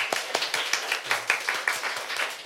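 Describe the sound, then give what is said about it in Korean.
A studio audience applauds with dense, overlapping claps, many hands clapping at once in a steady, moderately loud wash of sound without any voices. “큰 박수 부탁드릴게요.”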